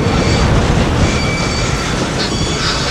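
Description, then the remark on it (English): A freight train carrying coal on a Kentucky railroad rumbles steadily along the tracks, a loud continuous roar of rolling wheels with faint metallic squeals riding over the top, and no voices. “Once carried by barge, they're now brought by Kentucky's dilapidated railroad on captured trains, and irregularly at that.”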